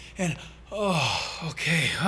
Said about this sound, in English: Your chest expands, because we so often breathe shallow. When we're stressed, our chest naturally has shallow breathing patterns. And there's times when you're under a lot of pressure, you got to take a deep breath.